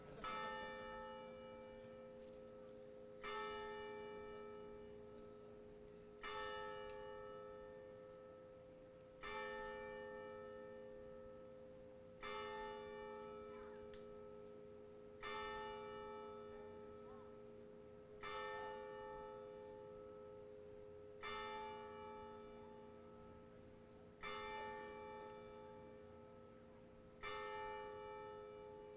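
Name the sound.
church bell ringing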